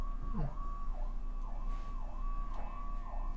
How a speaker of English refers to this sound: I wonder if the sirens are being picked up on the microphones. Probably not. The big sirens are.